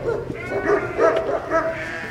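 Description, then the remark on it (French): Pyrenean mountain dogs (patous) at a sheep farm bark in a loose run of deep, overlapping woofs, three or four clear barks, with no voices and a low outdoor rumble underneath. “Et les patous, mais qui ont l'air gentils.”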